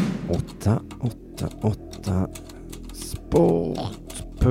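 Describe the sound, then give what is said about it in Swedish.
Quick, irregular clicks of someone typing a formula with trembling fingers on a well-polished computer keyboard, fairly loud, in short bursts with a low hum underneath. “Med darrande fingrar slog Simonius Cipernicus in den avgörande formeln. 888sport.se på det välputsade tangentbordet.”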